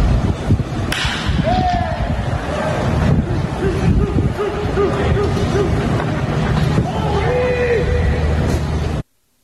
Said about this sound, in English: But this is what baseball sounds like with no crowd. Play it one more time. Baez double off Yu Darvish.